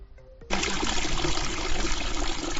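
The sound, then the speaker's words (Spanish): Water from several springs, where a river that is a tributary of the Lumia rises, at the Condes de Albarey cooperative estate with albariño vineyards, flows in a steady, continuous rush with a bright, hissing, splashing texture, starting abruptly after a brief quieter moment and continuing unchanged with no voices. “Aquí encontramos varios manantiales de agua, nace un río, afluente de Lumia, desde luego un entorno muy especial.”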